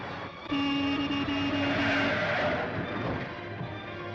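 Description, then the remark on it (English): At night in Los Angeles, a car speeds through a red traffic light, its engine roaring loud and steady for a few seconds before easing off slightly, with a brief sustained whine over the rush and no voices. “A traffic light turns red and a car speeds through it.”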